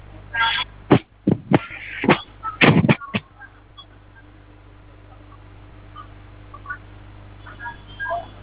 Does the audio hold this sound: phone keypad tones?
yes